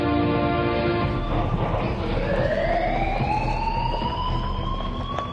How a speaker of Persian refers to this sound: خیلی خوب، آژیر اشتباهه، همین الان دستگاه رو اسکن کرده.